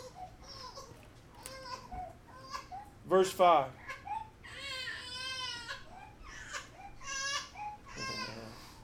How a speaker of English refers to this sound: Some people are bothered by children crying, but that means they're doing good when they're crying. They're just something they need. Thank God for crying. You and I could do a little more of it.